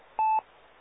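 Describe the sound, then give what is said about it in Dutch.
A single short ring tone of a radio operator's telephone heard over the radio, steady and fairly loud, lasting about a fifth of a second over a thin, band-limited radio hiss. No one speaks. “die heeft de telefoon bij de hand, denk ik, want die hoorde ik net daar gaan.”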